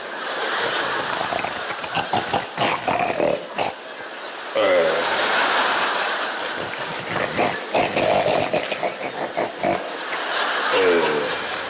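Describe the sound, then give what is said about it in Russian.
Loud, rough snoring with raspy, snorting breaths repeating in long drawn-out cycles, broken by a few short pauses, with voices talking at times. “Ты точно так же вчера храпела.”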